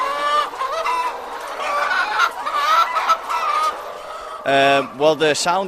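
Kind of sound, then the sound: bird, chickens clucking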